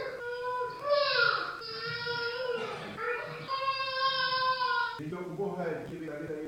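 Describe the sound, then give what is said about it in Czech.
A baby whimpers and cries in its sleep in a cave in a few drawn-out, wavering wails, with short breaks between them. The sound stays at a moderate level, rising and falling in pitch. “Dítě ze spánku poplakávalo a pastýř si pomyslel.”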